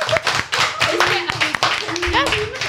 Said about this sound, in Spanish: Muy bien. Tenemos aplausos, aplausos.